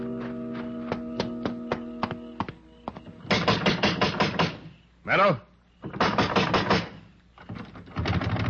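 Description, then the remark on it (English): A rapid series of sharp, hard knocks on a door, about eight raps over a low sustained tone, followed by loud, urgent talking. “Open up. Somebody open up or I'll shoot this lock off.”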